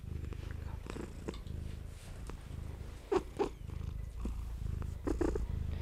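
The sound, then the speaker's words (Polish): A cat purrs steadily, a low rumbling drone that pulses with each breath, with a few brief higher chirps or squeaks breaking in partway through. “a potem wrócić do kotów, zanurzyć się w tym mruczeniu i wtedy jest lepiej.”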